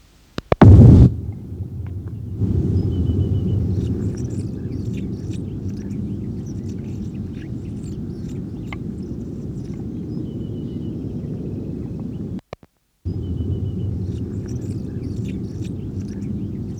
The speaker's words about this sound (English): four display flights by juvenile Calyptiana, the same bird that gave the previous series of songs.